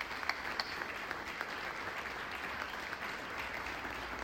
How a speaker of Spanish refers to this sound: que fueron los parte del grupo que inició el coro, a quien también le vamos a brindar un aplauso por su permanencia.